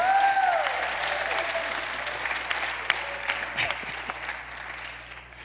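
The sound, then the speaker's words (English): A crowd claps steadily for about five seconds to give the Lord a hand, a dense, sustained wash of applause that fades slightly toward the end, with faint tonal sounds and a few scattered shouts mixed in. “Come on, y'all, give the Lord a hand.”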